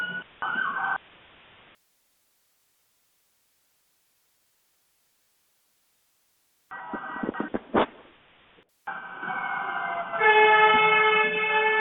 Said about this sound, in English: Sorry, we have an ambulance going by.